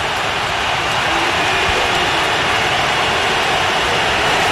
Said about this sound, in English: They just threw him out of the game. He's gotten his second technical, and he's been thrown out of the ball game. Listen to the crowd at Bud Walton Arena.